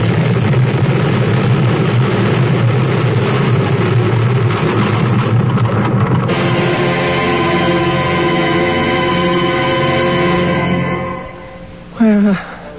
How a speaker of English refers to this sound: His wife, a former test pilot, desperate because her husband's body has been found and buried, takes off in her space jet, flies high, then spins to Earth. Her plane stalls. The end to her dive seems inevitable.